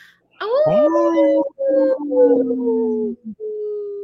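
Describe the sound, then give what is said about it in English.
Wolves howling in a loud, overlapping chorus: long tones that rise at the start and then hold steady, broken by a few short gaps, with no talking. “Hey, this portion of the show, we'd like to bring awareness to our Minnesota wolf population.”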